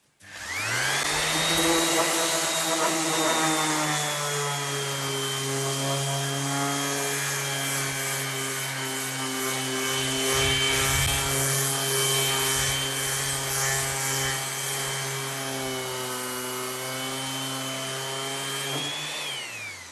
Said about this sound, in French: Ah, je connais ça. Tu connais ça, c'est la ponceuse.